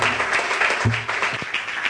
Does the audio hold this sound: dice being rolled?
no